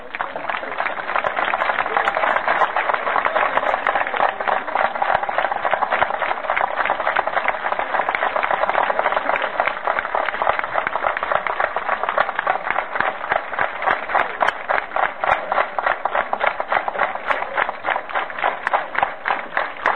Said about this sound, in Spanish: Estamos cerrando este acto, como todos los años, con un minuto de aplauso porque están presentes los 30.000.